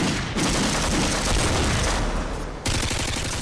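rifle gunfire

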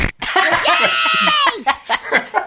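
fart sound effect

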